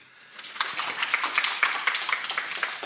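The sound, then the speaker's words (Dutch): An audience breaks into applause to thank a presenter after an afternoon presentation, a dense, steady patter of many hands clapping at once, swelling slightly and holding at a moderate level throughout, with no voices. “Maar als dank dat je deze middag vulde van ons allen even een applaus.”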